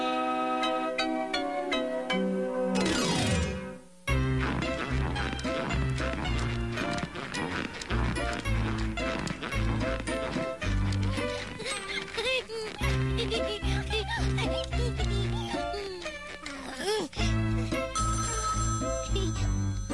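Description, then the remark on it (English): A telephone rings with a bright, busy electronic melody that plays loudly and almost without pause for the whole stretch, briefly dropping out once near the start. “The phone is not a plaything. Pickles residence.”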